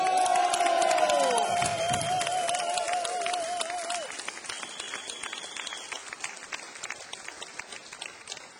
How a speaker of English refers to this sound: All right, before we go any further, would you please give a very big round of applause for Mr. …, everybody.